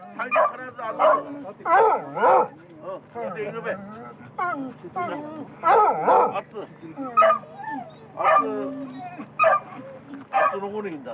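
Hunting dogs bark and yip in quick, excited bursts, with a few whimpering whines mixed in. They accompany hunters on a deer drive hunt in the mountains of the Oshika Peninsula, and they keep calling throughout.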